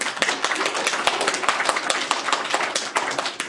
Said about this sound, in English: First off, big hand for all our musicians who played this morning.